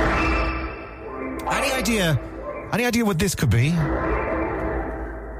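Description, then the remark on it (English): A steady, eerie electronic drone with layered tones hums throughout, a sonification of a black hole consuming space dust, while a man briefly speaks over it midway. “It's the sound of a black hole eating space dust.”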